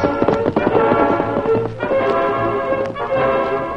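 Horse hooves clip-clop in a quick, steady rhythm as the outlaw Lefty rides his horse off toward the Lone Ranger's camp, under a sustained bed of orchestral music, with no voices present.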